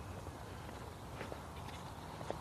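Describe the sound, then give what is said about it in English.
Soft footsteps crunch steadily along an outdoor path as a person walks along a park with tall grass and weeds, a quiet walking rhythm with a few sharper steps standing out against a low background hum. “But I'm walking along the park.”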